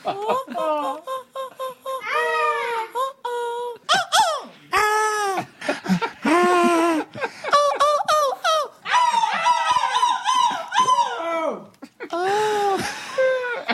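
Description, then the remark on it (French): Several voices on a France Inter radio show mimic seagull calls, a loud run of high, gliding yelps and squawks in quick bursts, mixed with giggles and laughter, lively, with brief pauses between cries. “Il n'y en a pas un qui veut tenter là le cri de la mouette en studio?”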